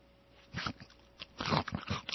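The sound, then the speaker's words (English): Crisp crunching of a time-release pill between the teeth, a few sharp bites followed by a louder burst of grinding chews, with no talking. “I always crunch them up to get the refreshing burst of flavor, my friends.”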